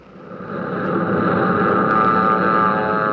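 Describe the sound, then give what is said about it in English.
A loud, steady roar of airplane engines passing overhead as planes fly due east over ground forces and past the summit of a hill, swelling in over the first moment and then holding as a dense, droning rumble with no voices. “They're flying due east over the ground forces, and no doubt you can hear them as they flash past the summit of this hill”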